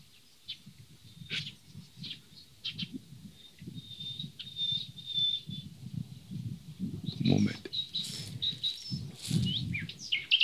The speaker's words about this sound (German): So, da hört ihr sie. Und da hört ihr sie zwei. Da hört ihr einmal die Nachtigall. Die Nachtigall ist der Vogel der Liebe. Mal schluchzend, mal traurig, mal fröhlich, mal jubilierend.